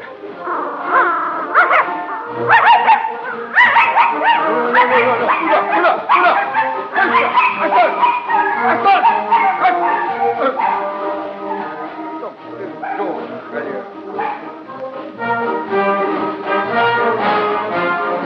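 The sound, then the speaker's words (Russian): A young red dog, a dachshund-mongrel mix, barks and whimpers almost without pause, its high yips and whining cries loud, with a human voice sometimes mixed in beneath them. “Каштанка, молодая рыжая собака, помесь таксы с дворняжкой, оглянулась”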